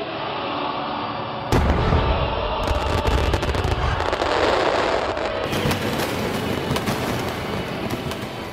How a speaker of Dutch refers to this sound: En dan schieten de vuurwerkregimenten in vuur al fluitend, rommelend, paffend, zodat glas in loodramen zouden barsten, moesten die er zijn.